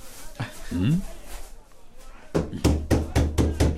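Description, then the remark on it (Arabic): After a brief murmur of voice and a quieter stretch, about six firm, evenly spaced knocks on a scholar's door ring out loud in the second half. “لماذا طرقت الباب أنت ما دمت في معيتك أنا يا أستاذي؟”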